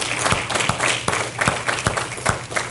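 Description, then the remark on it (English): An audience claps hands together in sustained applause as a hand clap offering to the Lord at the close of a church Bible study on the book of Numbers. Many overlapping claps form a dense, steady wash of sound, with a few sharper, louder claps standing out. “But for us tonight, we're going to close by giving the Lord a hand clap offering for everything that he taught us in the book of Numbers.”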